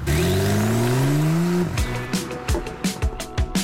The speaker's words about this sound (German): Mit dem Porsche über die Autobahn.